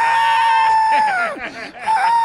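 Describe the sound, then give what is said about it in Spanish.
A woman screams loudly in a long, shrill, sustained cry that wavers and breaks partway through, then rises again briefly at the end, heard alone in a played clip. “Ah, pero sí gritó.”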